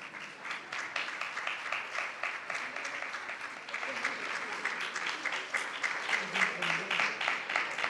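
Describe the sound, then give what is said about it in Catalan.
Sustained applause from an audience, a dense patter of many hands clapping steadily for several seconds, lively, with a faint murmur of voices underneath. The applause welcomes the brass quintet for its concert at the Plaça de l'Ajuntament in Roda de Barà. “Doncs tot seguit donem pas al concert del … i el rebem amb un fort aplaudiment.”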